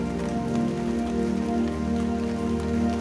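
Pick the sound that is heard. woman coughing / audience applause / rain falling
rain falling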